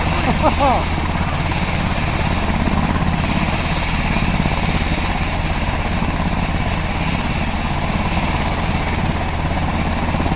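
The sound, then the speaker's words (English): A helicopter's engine whines and thrums loudly and steadily, its turbine winding up before takeoff, with voices faintly audible beneath the roar. “Hear that whine there?”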